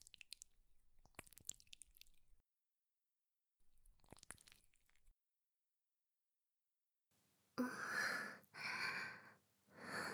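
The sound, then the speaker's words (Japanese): Soap is worked into a lather on breasts, for washing someone's back: soft wet squelching bursts separated by pauses, then louder, fuller sudsy rubbing swells toward the end, with no voices. “今、おっぱいに石鹸をつけますね。”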